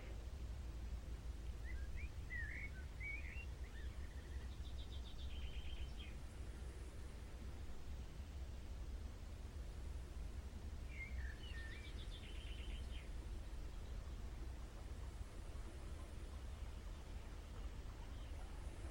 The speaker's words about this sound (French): Les oiseaux chantent.